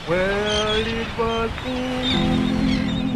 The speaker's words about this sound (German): Leichte Wellen, lauer Wind, die Sonne scheint. Am Strand von Grand Isle in Louisiana sieht es nicht so aus, als hätte sich hier mit der Explosion der Ölplattform Deepwater Horizon die größte Umweltkatastrophe in der Geschichte der USA abgespielt.